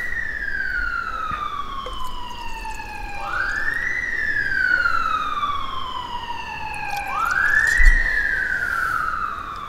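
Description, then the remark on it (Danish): Emergency vehicle sirens wail in Frederiksberg in long rising and falling sweeps, a loud tonal howl with bright harmonics that climbs sharply twice and slowly glides down, with no talking. “som lytterne kan høre, og som må de efterhånden må være bekendt, så er der virkelig mange ildebrænde og pludselig opstået sygdomme her på Frederiksberg.”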